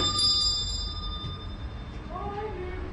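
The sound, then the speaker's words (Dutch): A doorbell at a family's home rings once, its bright tone lingering and fading over about a second against a steady wash of heavy rain, followed by a brief voice-like sound. “En ik ga eens aanbellen bij de familie De Ruiter.”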